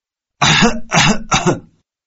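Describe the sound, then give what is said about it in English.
A harsh, heavy cough bursts out three times in quick succession, loud, with a rough, throaty rasp and no talking around it. “That sounds like a really bad cough.”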